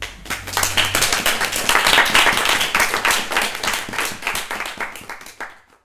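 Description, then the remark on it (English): An audience at an evening event breaks into steady applause for the staff of the journal 11/11, many hands clapping in a dense, fast patter that holds strong for several seconds before thinning out and fading near the end. “So I think a round of applause for them.”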